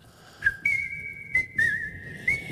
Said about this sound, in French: Mais c'était pour le plaisir d'entendre siffler. Jusqu'au bout. Malheureux. Il adore s'entendre siffler.